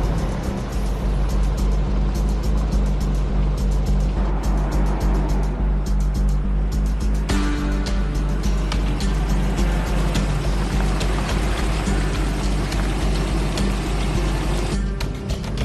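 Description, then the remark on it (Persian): A car drives with a loud, steady engine and road rumble; the sound shifts about halfway through as the vehicle slows and pulls over for the police at night. “ماشین رو باید نگه داریم، کارمون تمومه داداش، دیگه رسیدیم ته خط، تموم شد.”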